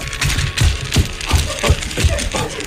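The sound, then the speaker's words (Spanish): Footsteps crunch steadily through dry autumn leaves covering a kitchen floor as chef Ferran Adrià walks to his kitchen, about seven or eight even paces, each step a dull thud with a crackling rustle, fairly loud with a constant noisy hiss underneath. “¿Por qué mi cocina está llena de hojas secas?”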